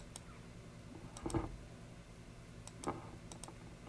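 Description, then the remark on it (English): Quiet computer mouse clicks as a small box on screen is clicked, several crisp ticks falling in quick pairs spread across a few seconds, with a faint thump of handling and a low hum underneath. “And I'm clicking on the pill box to do that?”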